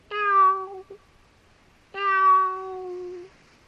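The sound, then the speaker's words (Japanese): A stray kitten meows twice, the first call short and the second longer and drawn out, separated by a brief pause with no other sounds. “和尚さんは漁師たちからその猫を買い取り、寺に連れて帰った。”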